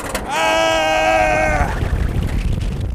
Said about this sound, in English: The wind noise and, yes, my screaming, make it a little hard to hear what's happening. But the car hits 74 miles per hour on its way down from a sheer drop.